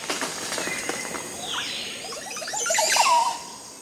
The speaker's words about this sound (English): Listen to this song. It's a male Montezuma Oropendula displaying for a female while he swings from a tree branch in a Central American forest. Today, he's holding forth in a tree bedecked with 20 or more Oropendula nests.